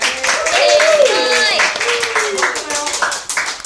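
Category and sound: crowd, applause welcoming guests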